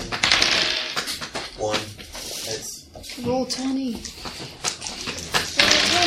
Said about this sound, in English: Want me to roll 2? Okay, I'm just going to set the dice aside as I did.